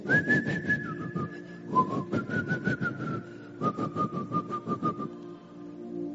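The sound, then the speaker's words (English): A person whistles a wandering, slightly wobbly tune imitating a drunkard, the melody sliding between notes over steady rhythmic low thumps, then trailing off into quiet near the end. “How many of you know that most times, most drunkards are either whistling or singing?”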